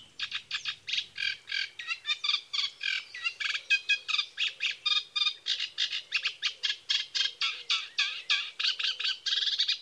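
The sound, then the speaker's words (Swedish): A reed warbler in a reed bed sings a long, continuous chattering song of rapid, scratchy repeated notes with a marching rhythm, clear, with no other sounds or voices. “Det finns några tänkbara bruna små kraxare här. Trastsångare, sävsångare och rörsångare.”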